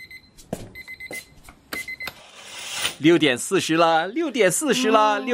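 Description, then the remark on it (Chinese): An alarm clock beeps in quick, high-pitched electronic bursts for about two seconds at 6:40 in the morning, before a voice starts speaking loudly as the beeping fades. “你听不见闹钟是不是？”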